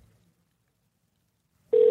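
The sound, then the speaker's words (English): Near silence with a faint low rumble, then a landline ringing tone, from a call placed to a woman's home landline, cuts in loudly at the very end: a steady, mid-pitched electronic tone that starts abruptly and is cut off after a brief moment. “I'll try her at home.”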